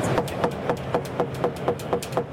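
About nine quick, evenly spaced knocks on a 5.75 kg carbon composite car door with a little Kleibon material added to its carbon layup, on the Biesterfeld booth at Jack World, each a short hollow tap with a bright edge, repeating steadily over a constant low background hum.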